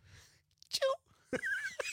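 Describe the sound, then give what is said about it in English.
A person imitates a small, quiet sneeze with their voice: a short squeaky burst, then a longer breathy, rising-and-falling vocal sound, soft overall and with no other talk. “I kind of do a little quiet one.”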